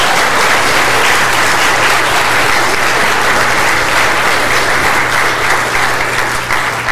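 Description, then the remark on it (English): An audience bursts into sustained, even applause for the choir, choir director and organist, at full strength for several seconds, many hands clapping together in a dense wash before easing slightly at the end. “And I want you to know, you have an outstanding choir, choir director, and organist, and I think it's okay to clap for them.”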